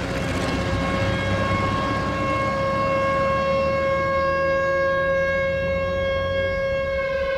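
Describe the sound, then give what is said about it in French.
A loud civil-defense alarm siren, sounding across the whole country on a public holiday, holds one steady, droning wail, its pitch sagging slowly toward the end as it begins to wind down. No voices are heard. “Et c'est là que soudain, alors que c'était effectivement un jour férié, bien sûr, qui pour donc tout s'arrête, je jouais dehors et des alarmes ont retenti dans tout le pays.”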